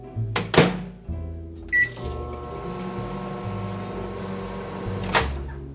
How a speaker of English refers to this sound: So I am going to grab an English muffin from the freezer, give it a partial thaw in the microwave.